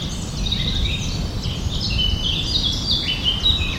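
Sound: birds chirping outdoors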